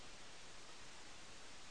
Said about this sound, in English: We're going to probably hear this fan humming on this thing.